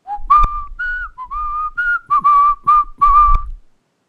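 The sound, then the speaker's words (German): A person whistles a simple folk melody, a string of clear sustained notes and short phrases lasting a few seconds, with no talking. “Eine Melodie pfeifen?”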